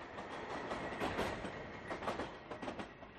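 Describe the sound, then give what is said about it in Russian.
A battered, warped train of the Shraaks rumbles steadily along the rails, its carriages creaking, with a few louder clanks and clatters rising out of the continuous rolling noise. No one speaks. “Побитый, покореженный, скрипящий на ходу поезд Шрааков оставил далеко позади последний горизонт, который видели когда-нибудь глаза рельсоходов.”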